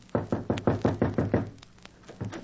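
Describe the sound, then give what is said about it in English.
Someone knocks on a cottage door with a quick, even run of about seven firm raps, pauses, then gives a couple more knocks. The knocking is fairly loud, and nobody speaks. “Tears were in my eyes, and I knocked upon the door.”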